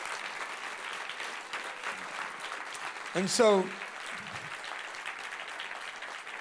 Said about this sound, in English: you know what? If y'all quit clapping, I have more time. No, don't. That's encouraging.